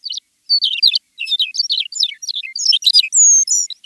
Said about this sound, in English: McCown's longspur.